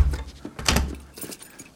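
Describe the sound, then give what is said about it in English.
A door swings shut with a solid low thud near the middle as it is closed after someone is let inside, preceded and followed by light rattling and clattering of hardware, fairly loud, with no voices. “Close the door.”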